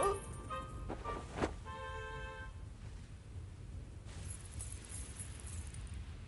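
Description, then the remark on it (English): Gold coins clink and jingle together in a short cluster of bright, ringing chinks near the start, over a low steady rumble, then the jingling fades. “Half of the gold coins are for the king's treasury.”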